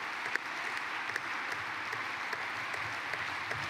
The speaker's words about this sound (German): Gerne. Jetzt kommt natürlich gerade Applaus, wenn wir einschalten.